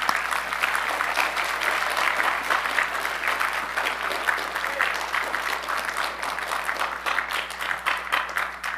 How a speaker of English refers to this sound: All right, let's give these a big round of applause.